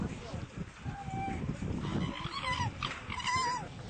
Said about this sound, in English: A farm with raccoon dogs. China breeds and raises approximately 1.5 million raccoon dogs per year for the fur industry. Raccoon dogs have great difficulty moving on the wire mesh floor.